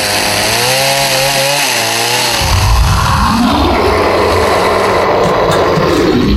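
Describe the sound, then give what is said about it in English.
An electric knife whirs loudly, its motor whine wavering up and down in pitch, then it shifts into a harsher, rougher buzzing grind that continues steadily to the end. No one speaks. “Just grab that electric knife and...”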